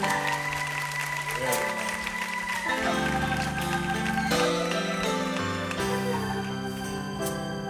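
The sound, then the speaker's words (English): An audience claps along steadily over loud, sustained music with shifting chords, the sharp hand claps blending into the full sound for the whole stretch. “Come on, clap your hands.”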